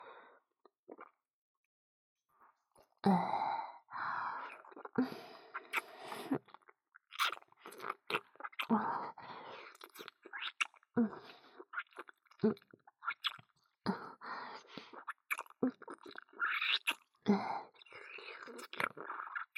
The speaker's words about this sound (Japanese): 飲み込みやすいように、今度は咀嚼いたしますね。